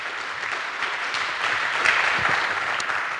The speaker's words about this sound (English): He is organizing Science for SHA for this festival, so maybe we can give him a short round of applause just for organizing Science for SHA.